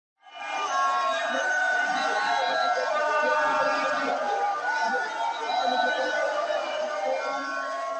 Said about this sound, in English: Hundreds of Cameroonian women blow trumpets and whistles on the streets of the Central African state's capital, Yaoundé, shouting and decrying the high cost of living amid surging inflation.